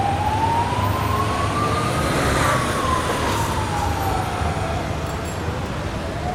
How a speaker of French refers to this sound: Ici, là, je suis à la sortie de la station de métro Louise.